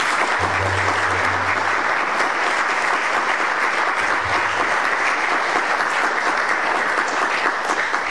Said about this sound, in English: This is the largest industrial project in the history of Bryan and Brazos County. That's worth a round of applause right here.